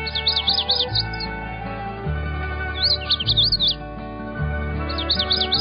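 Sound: magnolia warbler song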